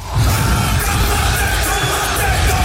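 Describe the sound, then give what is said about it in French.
The New Zealand rugby haka war chant: many deep male voices shouting and bellowing together in unison, loud and sustained, with a rumbling crowd-like roar filling the background. “Donc, restez bien attentifs, bien à l'écoute des GG, des grandes gueules, dès que vous entendez le haka des Néo-Zélandais.”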